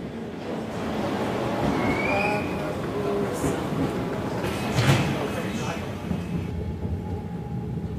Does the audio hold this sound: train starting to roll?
yes